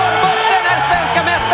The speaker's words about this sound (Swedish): Berglund blockerar mycket riktigt. Lägger sig ner förstås. Och det är vilt jubel!